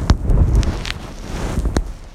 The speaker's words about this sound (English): The snow is loud underfoot. Our cover blown, the elk take off.